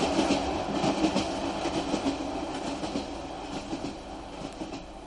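A train rattles steadily along the tracks, a dense, continuous rumble with faint rhythmic clacks of wheels over rail joints, with no voices.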